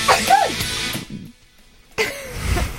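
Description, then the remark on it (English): Two loud sneezes burst out one after another with a second of quiet between them, each a sharp breathy explosion trailing off with a bit of voiced sound. “Sorry. Bless you.”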